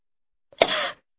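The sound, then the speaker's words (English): A single short, sharp cough bursts out, with a quick airy release that fades within half a second against silence. “A cough.”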